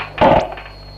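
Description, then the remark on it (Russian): A cord drops off a web radio with one sharp clattering knock lasting about a quarter second, then fades into a faint steady hum with no voices. “Шнур упал с этого, с веб-радио.”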